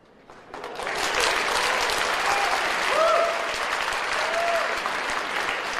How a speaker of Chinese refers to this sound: 下面我将有请一位神秘嘉宾给大家带来一段脱口秀，掌声鼓励一下。这位朋友他觉得掌声不够热烈，他不会出来讲。